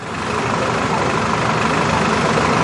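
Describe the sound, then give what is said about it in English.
A steady rumble of street traffic with engines idling at an intersection, a dense continuous wash of motor noise on the left that holds at the same loudness throughout, as a student with a cane crosses the intersection. “That surge of traffic on your left, it's safe to cross. She crosses. A car stops short.”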